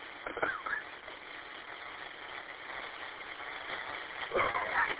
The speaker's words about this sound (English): All right, I'm here at the gas station, so there's no tanker truck, so that's a plus. I usually keep on going if I see a tanker truck sitting there.